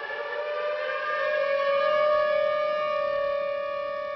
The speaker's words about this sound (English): Cities and some towns have tornado sirens in place, which sound utterly ominous, right? And they work, but they only can be heard from certain distances.